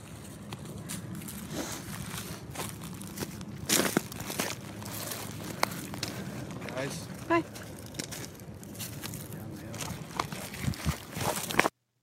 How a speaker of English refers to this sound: It's just there's a rock crunching, but they're trying to debate how to get down the thing, down the hill.